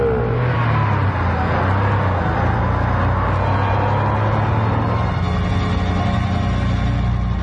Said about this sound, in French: la voiture de Monsieur Adolphus Pimpinergol s'éloigne à toute vitesse du cimetière de Brimborion